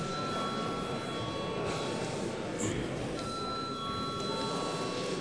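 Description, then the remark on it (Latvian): A parliament voting bell rings continuously for several seconds before a vote on a bill in its first reading, a steady, loud electric jangle with a bright metallic buzz that holds at an even level throughout. “Paldies, lūdzu zvanu.”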